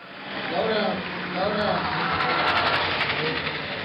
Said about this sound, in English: With hands pumping in the air, Team 20's Bradley George and Robbie Shackle ride side by side for the final quarter mile of this year's Iron Dog Snow Machine race. They wait until the last possible moment to slow down.